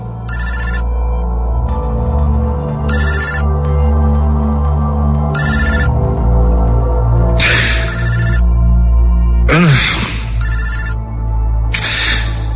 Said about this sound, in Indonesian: Saat itu pagi hari, aku dibangunkan dengan suara dering telepon yang terus-menerus berbunyi.